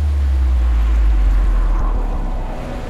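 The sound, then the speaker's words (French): A steady, heavy rumble of ocean surf breaking on the shore, with a continuous wash of water and low roar, loud throughout, with no voices. “Ce ressac qui vous apaise, si vous deviez l'écouter nuit et jour, sans pouvoir y échapper, au bout de combien de temps deviendrait-il un supplice pour vous?”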